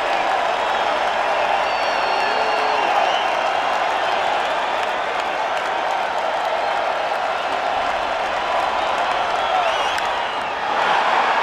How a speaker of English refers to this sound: I love when you can hear the crowd go crazy. I just absolutely love it.